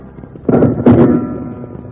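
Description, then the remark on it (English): Two loud gunshots go off in quick succession, fired wildly by an angry crowd at two lawmen, Wild Bill Hickok and Jingles, each a sharp bang that trails into a brief rumbling decay, over a low, steady background hum. “They found no trace of the missing crook, but the angry crowd, close on their heels, started firing wildly at the two lawmen.”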